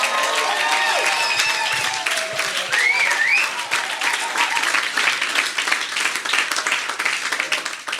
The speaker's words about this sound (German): Das ist der absolute Hammer, und deswegen gebt mal eurem Pastor mal einen fetten Applaus.